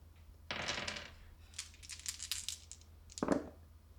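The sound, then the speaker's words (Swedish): Dice clatter and tumble across a hard surface in a few quick bursts, rolled for a sneaking check in a tabletop role-playing game, a longer rattling roll followed by a brief sharp clack near the end, fairly quiet with no talking. “hon pressar med en tärning”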